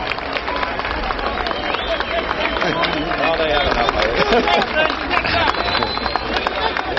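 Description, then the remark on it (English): A large crowd cheers for President Eisenhower before he speaks at the podium, in a steady, dense roar that holds at the same loudness for several seconds, with individual voices occasionally rising above the din. “A moment when the cheering dies down, we'll switch down to the podium and to President Eisenhower.”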